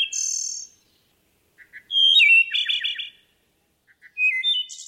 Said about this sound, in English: Behind us right here, the wood thrush. Thoreau called it the Shakespeare among birds. It's declined reportedly 43% in population since 1966, in part due to forest fragmentation, acid rain.